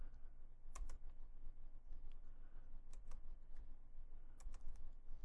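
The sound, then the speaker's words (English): Quick, light key clicks tapped in short irregular bursts, fairly quiet, as fingers type numbers into a calculator to multiply 480 by 320, with a low steady background hum and no talking. “But I like that little clicking sound.”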